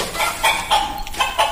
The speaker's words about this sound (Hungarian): Tyúk.